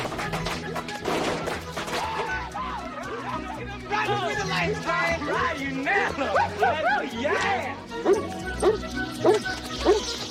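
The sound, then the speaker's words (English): A leashed dog barks and yips excitedly in quick, uneven bursts, loud, as it yanks its leash free from a tree, with a bump or crash early on and a voice talking over part of it. “The dog yanks its leash free from the tree.”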